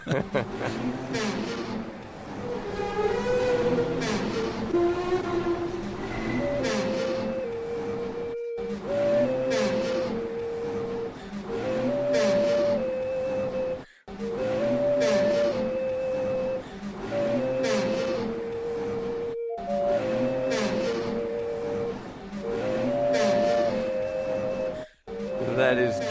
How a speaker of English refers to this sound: From somewhere in the Washington, D.C. area with the Farragut Metro Blues, adding flutes, or sounds actually like recorders, to the sounds of one of the squeaky escalators there in the metro system.